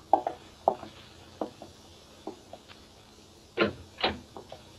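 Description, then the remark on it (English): A door being opened: a run of small latch clicks and rattles, then two louder, slightly drawn-out knocks or scrapes near the end. No one speaks. “I'd pull myself together and went out and opened the door.”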